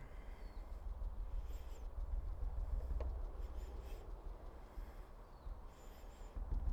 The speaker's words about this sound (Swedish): Samtidigt så har jag de här måsarna som sjunger.